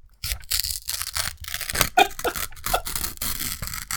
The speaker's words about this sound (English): I'm going to rip this piece of paper slowly.